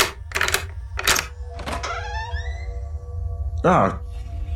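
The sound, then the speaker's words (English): A door to a room where a prisoner is locked in being forced open: a few loud rattling bangs, a drawn-out metallic creak, then one more forceful jolt, with a low steady rumble underneath throughout. “Let me try and open this door.”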